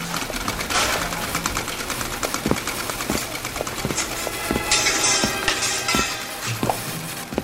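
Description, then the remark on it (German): Automated mechanical weaving looms run nonstop producing fabric, a dense, steady clatter of sharp repeated clacks over a continuous grinding whir, with a brief hissing burst partway through and no voices. “Sie produzieren ohne Pause hochwertige Stoffe am laufenden Band.”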